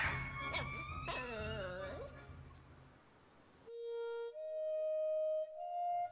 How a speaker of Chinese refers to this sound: 汪汪汪汪，索尼亚大叫着飞跑着逃开了